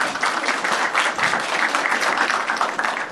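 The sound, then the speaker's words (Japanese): A crowd applauds steadily, many hands clapping into a dense, loud wash of sound that holds even for the whole stretch without a pause. “大きな拍手をしましょう。”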